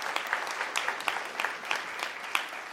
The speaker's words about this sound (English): Yes. A round of applause.